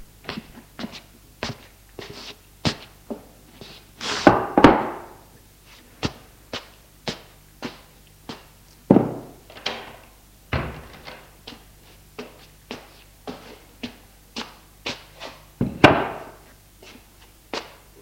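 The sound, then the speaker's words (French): Footsteps tap steadily as a man carries a chair from the kitchen into the bedroom and climbs on it, broken by a few heavier thumps and bumps as he takes a suitcase down from the top of the wardrobe, sets it on the floor and steps down. No one speaks. “Il prend une chaise dans la cuisine, la porte dans la chambre et monte dessus pour attraper la valise.”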